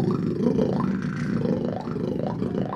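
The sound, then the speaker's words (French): A voice imitates a didgeridoo, a large tube-like instrument, holding a low, buzzing drone for nearly three seconds with wavering overtones sweeping up and down over the steady hum. No words are spoken. “Alors, est-ce que vous connaissez les didgeridoo? C'est des espèces de gros tubes comme ça où ça fait...”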